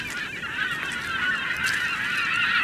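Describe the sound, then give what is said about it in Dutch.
A dense chorus of geese honking continuously, many birds calling over one another, with no speech, among the sand and mudflats at the northernmost point of the Netherlands. “Op het noordelijkste puntje van Nederland zie je zand, pruttelende modder, wat verlaten arbeidershuisjes en vogels. Vooral veel vogels.”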